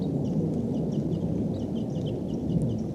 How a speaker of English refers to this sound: The entire flock is going to come to the tree above the net. It looks like they're going to make an attempt coming all the way down. There could be as many as 10 birds here. Birds are calling. They may take off. These are wild birds.